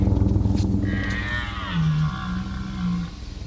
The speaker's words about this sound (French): Mais grosso modo, le brame est déclenché par la mise en chaleur des biches. Et la mise en chaleur des biches est déclenchée par la longueur de la lumière du jour.